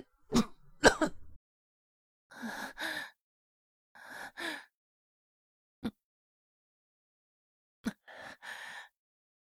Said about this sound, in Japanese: 咳込んじゃいました。